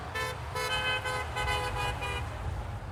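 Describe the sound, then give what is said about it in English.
A car horn honks repeatedly in short, quick bursts, loud, over a steady low rumble of engines and road noise. “Honk if you had fun.”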